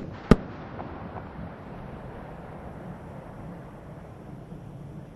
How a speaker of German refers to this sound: Piercing the pre-dawn skies, the space shuttle announces its arrival at the launch site with its signature sound of twin sonic booms having gone subsonic for the last time.